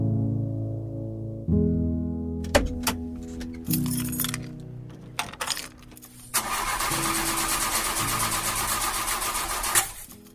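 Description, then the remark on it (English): An old car engine cranks and whines over and over without catching, with metallic clicks between attempts, then a harsh, loud grinding rush fills the last few seconds. No one speaks. “Keys were still in the ignition. But no good? No good. I climbed out of the old car”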